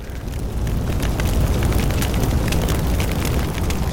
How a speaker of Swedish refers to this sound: Sen kommer elden med full kraft och med ett säreget ljud.